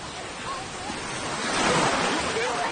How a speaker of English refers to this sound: Water laps over the edge of the boat. Are we sinking? No, we're not sinking.